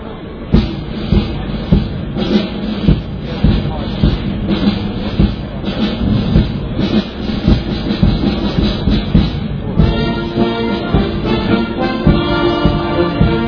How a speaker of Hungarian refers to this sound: Ennek a hangnak a kíséretében indították útnak a városvezetők, a betó és a kivitelező cégek vezetői a 4-es metró fúrópajzsát a vonal tervezett Etele téri végállomásának a helyén.